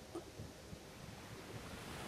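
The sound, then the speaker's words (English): Soft ocean surf washing in a steady, hissing roar, with no distinct individual wave crashes and no voices. “Synchronize your breath with the waves that you hear.”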